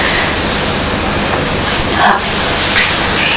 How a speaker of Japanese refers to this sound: あ、列車